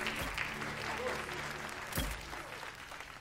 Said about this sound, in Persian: بس دیگه تشویقم نکنین.